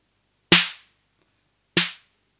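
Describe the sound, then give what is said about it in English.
Two sharp snare drum hits from an unmodified drum machine, spaced just over a second apart, each a bright noisy crack with a short tonal body and a quick decaying tail, no voices. “Now the snappy the snappy filtering is lower, so you'll hear a if we go back to the unmodified machine,”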